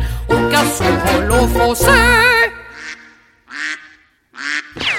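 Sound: duck quacking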